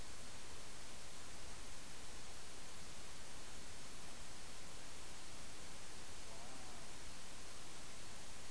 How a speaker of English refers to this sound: Do you hear the water? Listen to the water.